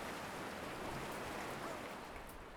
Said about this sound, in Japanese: ほーら、どんどん波が大きくなる。大きくなっていく。波が押し寄せる。